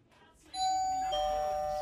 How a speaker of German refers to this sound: es hat geklingelt. Das ist bestimmt Geburtstagsbesuch für dich.